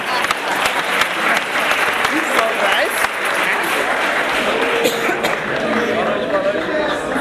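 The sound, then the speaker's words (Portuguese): A crowd applauds the composers of the next samba of the night for several seconds, a dense, even wash of clapping hands with faint cheers and voices mixed in, all at a constant, fairly loud level. “Uma salva de palmas para os compositores”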